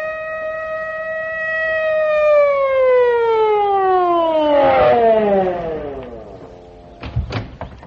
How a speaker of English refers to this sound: Just a minute, Judge. Here comes a police car. Oh, wonder what they want.